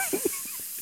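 A steady, unbroken hiss of white noise, bright and airy, holding an even level throughout, with a couple of brief soft blips early on.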